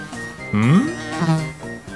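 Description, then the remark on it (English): A fly buzzes in two swelling bursts, its droning pitch rising and wavering before fading out, with a faint steady hum underneath and no one talking. “Oh no! Here comes a fly.”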